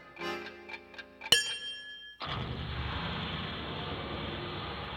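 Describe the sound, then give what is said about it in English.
Soft ringing chime tones lead into one bright, metallic strike of an atomic bomb clock, and a moment later a sudden loud, steady roaring rush takes over and holds to the end. “Well, this is great news, of course, but unfortunately, at this moment, the atomic bomb clock not far away is about to strike.”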